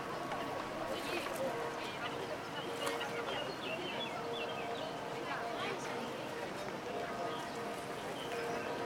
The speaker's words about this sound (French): D'où viennent tous ces gens? Leurs voix se croisent, les langues, les âges, l'agitation désordonnée des enfants et le pas régulier des talons qui claquent.